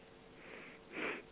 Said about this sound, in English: Sniffling again.